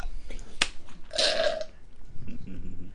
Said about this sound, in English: You don't have to slurp. It was a little bit.